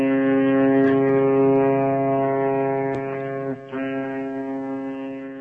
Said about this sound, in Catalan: Va córrer cap al port i va demanar a un vaixell molt gran si els podria portar al Pol Sud, però la veu li va sortir massa fluixa per fer-se sentir per sobre d'aquella sirena del vaixell.